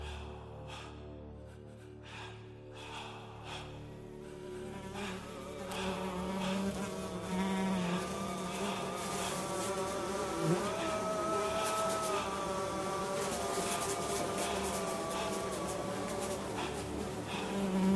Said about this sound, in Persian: خبر قتل عام رو مگس ها به ما رسوندن. 1,000,000 مگس که وزوزشون با بوی تعفن توی هوا قاطی شده بود. پیام و واضح به ما می رسوندن. مگس های قد خرمگس رو سر و بدنمون می شستن، بدون این که براشون مهم باشه کی زنده است و کی مرده.